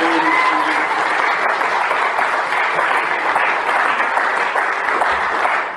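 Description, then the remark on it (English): Loud, sustained applause for the Lord from a church audience as the choir comes to a close, with dense clapping filling the whole stretch at an even level and no voices standing out. “thank you for the extra loud clap over there.”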